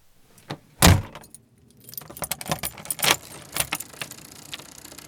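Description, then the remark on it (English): A car door slams shut with one loud, heavy thud, followed by several seconds of light metallic jingling and clicking, like keys rattling. No one speaks. “I'm about to slam the door once again.”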